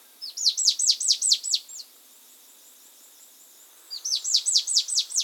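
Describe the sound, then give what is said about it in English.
A rufescent antshrike of Peru calls in two bright bursts of rapid, down-slurred whistled notes, about seven each, separated by a few seconds of quiet. The calls are clear, with no voices. “That rich cinnamon red hue gets an even fancier flourish with the rufescent antshrike of Peru.”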